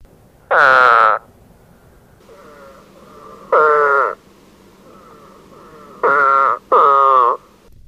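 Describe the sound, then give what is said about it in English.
A spadefoot toad gives four loud, drawn-out, explosive nasal retching calls, each under a second, like exaggerated cartoon vomiting. The calls come in an irregular rhythm over a faint background of other frogs calling. “The spadefoot toad has an explosive nasal utterance, somewhat like an exaggerated cartoon vomiting sound. It breeds in temporary pools caused by heavy rains and is not often encountered.”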